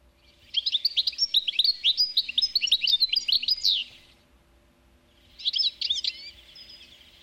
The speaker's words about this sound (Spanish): Vamos a escuchar al jilguero, vamos a ver cómo suena.